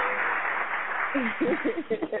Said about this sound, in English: We going to play some more hits for y'all, but I'm so proud of y'all for tuning in. Round of applause for y'all.